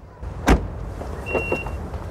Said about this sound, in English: Lucy and Sam get out of his car outside her flat in the dark.